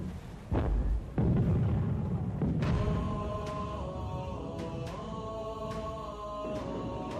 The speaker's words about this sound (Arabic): أما الآن فقد حانت لحظة الهجوم، أطلقوا المدافع على سفنهم حتى تشاركوا العاصفة في هزيمتهم.